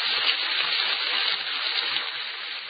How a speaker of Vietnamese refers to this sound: tiếng xèo xèo của những thức ăn chiên trong những chảo ngập dầu và mùi đồ ăn được dán kỹ luôn hấp dẫn với nhiều người.